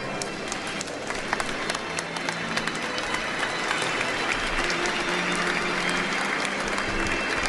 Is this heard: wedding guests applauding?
yes